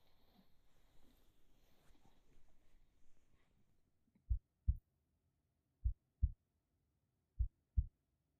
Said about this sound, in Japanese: 信じられませんか？でしたら私の鼓動を感じてみてください。